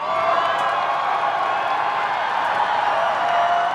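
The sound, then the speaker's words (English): A large parade crowd roars and cheers continuously as Donald Trump and his family get out of his limousine and walk a stretch of the parade, with scattered whoops and clapping blending into a dense, steady wall of noise that holds loud throughout. “Let's listen to how the crowd reacted to that.”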